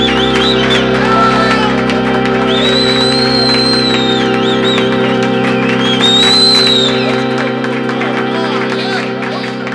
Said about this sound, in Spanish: Público en el estudio aplaude